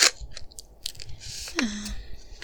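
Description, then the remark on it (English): Soft, wet chewing of gum: a steady run of small smacks, clicks and squelches, with one brief sliding squeak midway. No one speaks. “It's a gum.”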